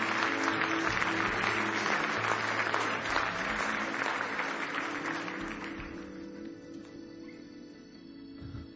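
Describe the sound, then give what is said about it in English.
A large group claps hands in praise in the morning, dense, sustained applause that gradually thins and fades over several seconds, with a faint tonal hum lingering underneath as the clapping dies down. “Give him one more hand clap of praise this morning.”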